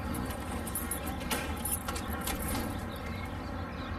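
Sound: keys jangling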